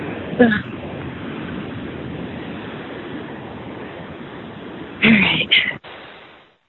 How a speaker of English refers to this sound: Sorry, I'm walking in the rain.